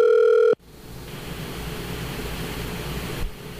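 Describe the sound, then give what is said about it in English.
A loud, steady electronic phone tone sounds for about half a second as a phone call is placed, then cuts off abruptly into a continuous hiss of open-line noise. No one speaks. “I'm going to call him really quick.”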